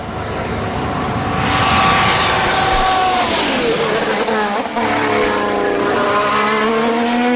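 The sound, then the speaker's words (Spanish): A loud, high-pitched Honda-powered Red Bull Formula 1 engine screams continuously, its whining tone sweeping downward midway as the car passes, then holding a steady roar for the rest of the seven seconds. “Ese es el Honda, ¿no? El Honda. Es el que quedaba. El Honda pero, de Red Bull.”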